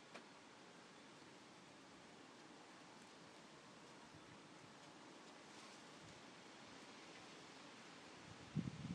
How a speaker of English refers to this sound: You can certainly hear the wind getting up. Things are starting to sway in my garden. There go the wind chimes.